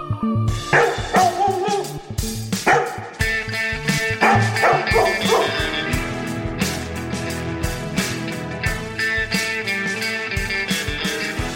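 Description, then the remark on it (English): Several loud dog barks and yips burst out in the first few seconds over upbeat music, then the music carries on steadily with no talking. “It's Doggy Pod time. Release the hounds.”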